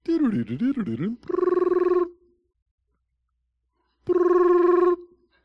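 A telephone call placed at 11 o'clock at night rings through the line: a warbling electronic tone, then two steady buzzing ring bursts separated by about two seconds of silence, clear, with no talking.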